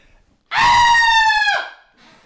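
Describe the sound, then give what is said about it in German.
One piercing, high-pitched human scream, loud, held steady for about a second before breaking off with a sharp downward drop, followed by quiet; a person screaming bloodcurdlingly on request. “kannst du einmal markerschütternd für uns schreien?”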